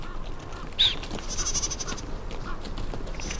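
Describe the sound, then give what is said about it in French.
A group of mountain goats, two young males and a female, bleat in a few short, nasal calls beside juniper bushes among steep rocks in a park on a cold, bright February morning, over a steady outdoor rustle with no one talking. “À côté des genévriers, il y a un groupe de chèvres de montagne.”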